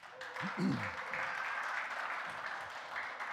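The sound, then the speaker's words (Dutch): An audience breaks into sustained applause for the speaker's friends, a dense, even wash of clapping that holds steady throughout, with a brief voice rising over it early on. “Geef ze eens een applaus.”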